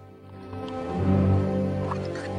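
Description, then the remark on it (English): Whiskey is poured steadily from a half bottle into a mug, a continuous trickle whose gurgling tone swells and shifts as the mug fills, with no voices. “Bowen beside him has a half bottle in his hand and pours some more.”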